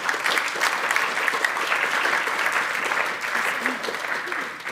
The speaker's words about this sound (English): Would you give a big round of applause